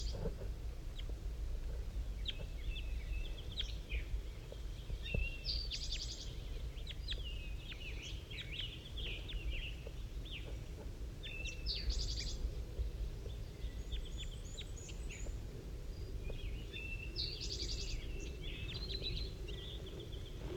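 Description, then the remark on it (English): A bird called 5-3 gives repeated high, soft calls and short chirps in bursts every few seconds, calling back and forth with two wild birds, one of which lands in a pine tree, over a steady low outdoor rumble, with no one talking. “Oh, one of the wild birds is coming in now. I just saw it land in the pine tree. 5-3 is calling to it.”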